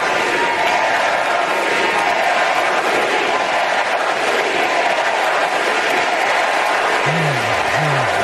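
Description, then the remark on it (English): A huge crowd in Chicago roars with sustained, dense applause and cheering that fills the whole space, loud and steady throughout, with a few brief whoops rising near the end. “Raucous applause.”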